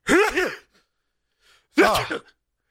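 Two loud sneezes, each a short voiced burst ending in a sharp breathy blast, separated by about a second of near silence.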